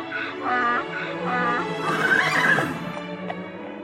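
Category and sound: animal, horse neighing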